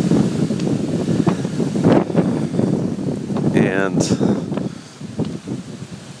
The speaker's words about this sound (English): yeah, it is quite windy, but the rain is not very intense at this minute. And there is still a bit of rain.